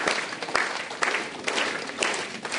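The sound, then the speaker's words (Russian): A dense, steady patter of many hands clapping and slapping together to mimic heavy rain that gradually subsides, a continuous hiss of overlapping taps with a few sharper accents scattered throughout. “Дождик идет сильно. Но постепенно он затихает.”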